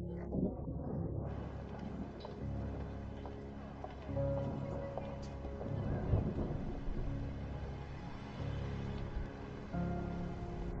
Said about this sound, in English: You look at the sky and see large clouds full of water about to fall. The sounds of thunder and lightning begin to appear.